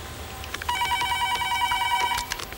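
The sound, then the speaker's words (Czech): A telephone rings once with a warbling electronic trill, lasting over a second and heard fairly clearly against low background noise, with a couple of faint clicks around it. “Druhý den zazvonil telefon.”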